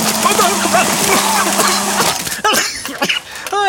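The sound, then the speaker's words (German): An electric hand mixer whirs loudly at full speed, mixing a batter of carrots, chopped pistachios, eggs, applesauce, milk, baking soda and powdered sugar, with a steady, buzzing hum for about two seconds, then cuts out as voices and laughter follow. “Dann brauchen wir den Mixer, um alles zu einem Teig zu verrühren. Hier ist der Handmixer.”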